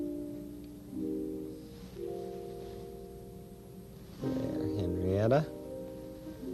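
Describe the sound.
A person's voice mimics the cat Henrietta Pussycat, giving a short meow with a rising and falling pitch near the end, after a stretch of soft, sustained musical notes.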